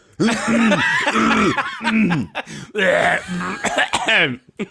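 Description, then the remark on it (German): Someone clears their throat several times in a row, fairly loud, with rough, voiced rasps and short breaks between bursts. “Ja, jetzt räusperst du selber”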